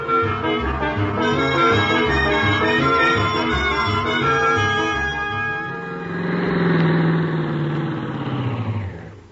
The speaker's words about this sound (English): Start the car, Miss Brooks. All right, Mr. Conklin. And this time we're really off to Clay City.